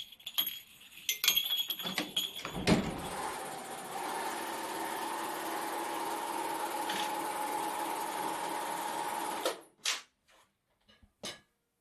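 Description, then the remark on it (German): A sewing machine runs steadily for several seconds with a continuous mechanical rattle and hum, preceded by a few sharp clicks and handling noises and followed by brief taps. Recorded in Hohenems, Vorarlberg. “Ja, wer sich jetzt fragt, was das gerade für ein Geräusch war, das war das Rattern von einer Nähmaschine.”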